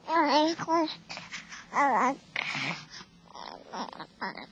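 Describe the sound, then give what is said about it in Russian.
A baby babbles in short, high-pitched bursts of syllables, fairly loud, with brief pauses between the vocal sounds and no adult speech. “И какое счастье услышать первое слово ребенка.”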